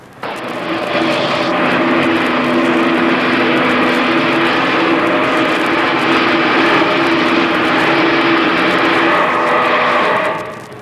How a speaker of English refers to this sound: The purpose of the door is to close the passage between the two places and thereby protect people working with the meson beam from the dangerous radiation issued from the cyclotron. I'll press the button and start this door closing.